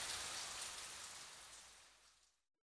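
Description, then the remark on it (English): Steady rain falls in a dense, hissing wash that fades gradually toward the end, with no voices present. “At home, it was a rainy day too.”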